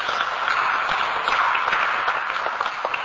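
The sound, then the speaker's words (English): Steady audience applause at a parliament meeting, clapping for a member of the parliamentary staff, fills the whole stretch, a dense wash of many hands clapping at an even, sustained loudness with no voices standing out. “She's not here, but let us give her a clap.”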